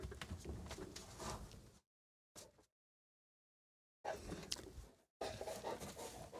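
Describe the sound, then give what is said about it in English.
A dog, being taunted by a cat, pants heavily in rapid, breathy bursts, broken by a couple of abrupt silent gaps before the panting resumes. “My dog is just driving me crazy. Cat is taunting him”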